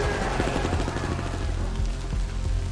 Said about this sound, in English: He stood and began to move slowly and cautiously toward the sound of the firefight.